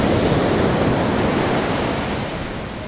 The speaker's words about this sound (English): I've been here for about 15 minutes, and when it was actually dark, I've been awake since 4, and I just thought I would come down to the beach and have a little stroll.